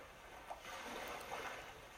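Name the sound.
distant ocean waves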